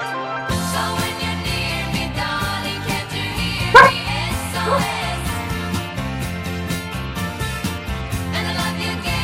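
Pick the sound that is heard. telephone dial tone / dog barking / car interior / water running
dog barking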